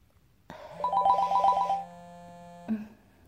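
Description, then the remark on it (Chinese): A phone ringtone for an incoming call from the father plays a short, bright electronic melody of quick repeated notes, holding a sustained tone before cutting off with a brief blip. It is fairly loud and has no talking. “他就打来电话”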